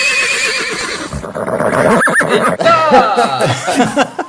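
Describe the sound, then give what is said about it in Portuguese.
A donkey brays loudly, a continuous run of harsh, wavering calls rising and falling for a few seconds, with no voices. “Agora bota um barulho de um jumento relinchando aí.”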